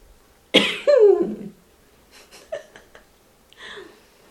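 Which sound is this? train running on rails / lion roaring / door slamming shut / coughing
coughing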